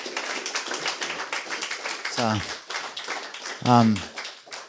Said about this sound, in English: So let's clap for the moment.